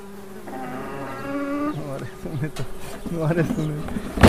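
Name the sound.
honeybees buzzing around beehives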